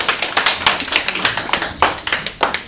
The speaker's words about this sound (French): C'est une bonne réponse. On peut les applaudir.